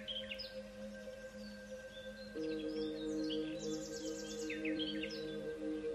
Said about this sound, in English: Notice the sounds that come and go. Perhaps you hear the sound of a gentle breeze rustling through the leaves, the songs of the birds, or an occasional bark of a dog in the distance.